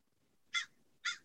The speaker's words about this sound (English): we get some nice avian noises here in California. Is that a bird? It's it is a bird. I think it's a crow or a raven, which is not terribly exciting, but it is a bird.